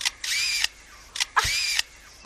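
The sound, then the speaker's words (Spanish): A lyrebird mimics a camera: sharp shutter clicks followed by two bursts of whirring motor drive, each lasting about half a second, with brief clicks between. No talking. “Eso sería el disparo de la cámara, pero es que incluso puede hacer también como una cámara de estas que llevan con el motorcillo después, el disparo y el sonido del motor.”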